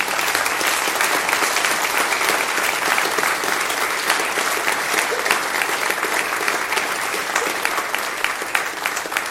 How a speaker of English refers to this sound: But as a family, they have informed me that this is their last Sunday. So can we give them a send-off here with a big hand clap?